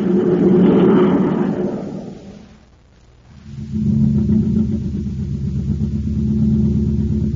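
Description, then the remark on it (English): The engine of a surface car running on ordinary fuel, in the Space Patrol radio adventure, runs with a loud, steady low rumble, briefly fades down for a moment, then picks back up and keeps droning evenly. No one speaks. “This surface car has just got ordinary fuel in it.”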